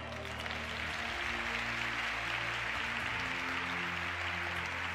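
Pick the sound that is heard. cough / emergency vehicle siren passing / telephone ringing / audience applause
audience applause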